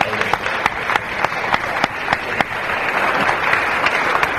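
An audience applauds a speaker at the end of a talk, a dense wash of many hands clapping steadily at a fairly even loudness, with a few sharper individual claps standing out from the crowd.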